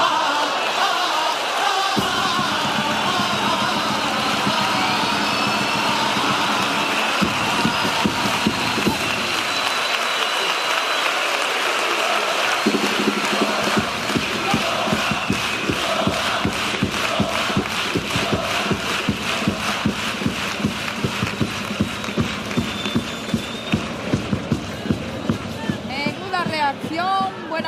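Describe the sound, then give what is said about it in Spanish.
A large audience on its feet applauds a paso doble criticizing Andalusian healthcare, loud continuous dense clapping with rhythmic surges, crowd noise and scattered cheers mixed in throughout. “En pie aplaudiendo este paso doble, dura crítica a la sanidad, a la situación de la sanidad andaluza, con mensaje directo para el presidente de la Junta.”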